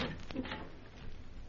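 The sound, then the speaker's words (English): A few quick metallic clicks and rattles of the door to a room at the head of some stairs being unlocked, over a steady hiss of background noise, with no voices. “In just a moment while I unlock the door.”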